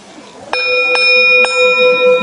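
A temple bell struck with a mallet three times in quick succession, each hit adding to a bright, sustained metallic ring that hangs in the air, fairly loud.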